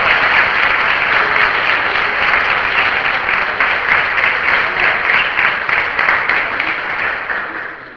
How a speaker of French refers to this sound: Et je pense qu'on peut applaudir notre équipe.